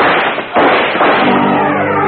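gunshots

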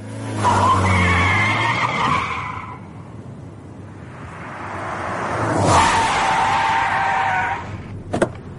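fast car speeding away

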